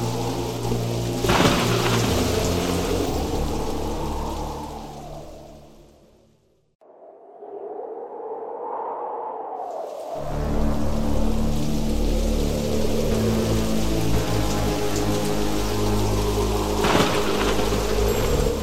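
Heavy rain pours steadily with deep rumbling thunder, loud; the storm briefly thins to a muffled hush midway, then surges back at full strength.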